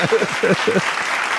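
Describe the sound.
A short burst of steady applause, dense overlapping claps forming a continuous hiss, with a few voices calling out over it near the start.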